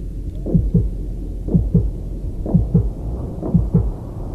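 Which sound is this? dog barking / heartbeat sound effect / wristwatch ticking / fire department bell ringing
heartbeat sound effect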